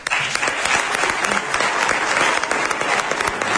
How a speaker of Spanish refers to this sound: Gracias por todo, un aplauso.